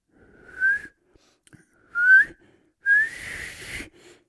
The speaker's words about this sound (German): … will noch einmal pfeifen, aber jetzt geht es nicht. Er muss noch immer lachen. Und wer lacht, der kann nicht pfeifen. Warte mal, jetzt geht es.